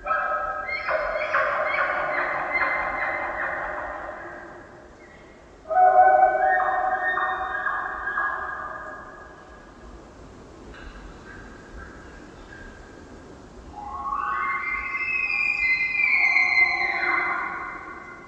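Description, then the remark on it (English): A bull elk bugles its rutting call from beyond the conifers in a series of long, reedy, harmonic calls, the last climbing to a high whistling pitch, fairly loud and clear over a faint outdoor hiss with no talking. “An elk bugle. This distinct rutting call gets higher and ends with a series of grunts.”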